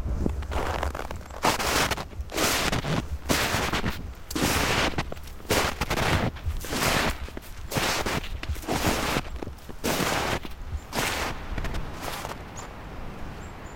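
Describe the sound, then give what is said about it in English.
Steady crunching footsteps trudge through deep snow under a few jack pine trees at Tamarack National Wildlife Refuge, about one heavy step every second or so, loud with no talking, the crisp crunches repeating throughout. “today we're walking into the deep snow under a few jack pine trees.”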